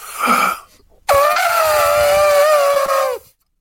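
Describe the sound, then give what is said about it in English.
A person imitates an elephant trumpeting: a short breathy rasp, then one loud, sustained, brassy wail lasting about two seconds, with no other talking. “It's a good elephant.”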